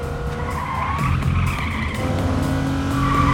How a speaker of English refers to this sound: She accelerates and passes a truck hauling a camper.